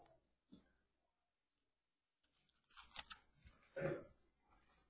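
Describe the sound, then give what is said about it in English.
Soft, scattered rustling and crinkling of Bible pages as an audience turns to Numbers chapter 18 in a quiet room, with a brief flip near the start and a denser flurry of rustles later on. “I love to hear the pages turning.”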